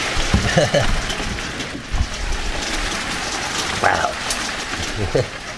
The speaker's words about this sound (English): Wow. The rain agrees. Yes, the rain started. So I darted indoors, if it sounds different.